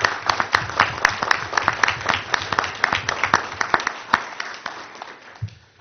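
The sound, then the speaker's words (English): A crowd applauds for several seconds at a city meeting, honoring absent city workers who maintain municipal buildings, parks and streets, many hands clapping in a dense, crackling patter with sharp individual claps standing out, fading toward the end. “I did invite them, but I think we should all give them in absentia a round of applause because they are indeed remarkable.”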